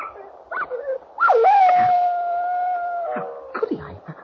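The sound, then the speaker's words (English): A dog lets out a long, sustained howl that holds steady for about two seconds, framed by short yips and whimpers before and after. It sounds fairly loud, with no talking. “the dog.”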